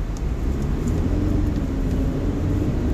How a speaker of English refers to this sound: It's a big truck. GMC. You got a big muffler. Uh-huh. I was wondering what that was. It's an American.